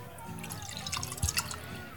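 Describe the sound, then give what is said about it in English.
Beer is poured, a soft trickle of liquid with a couple of brief splashy drips and gurgles partway through, all fairly quiet against a low background hum. “That is the sound of a beer being poured.”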